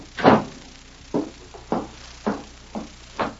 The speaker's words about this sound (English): Come in and close the door.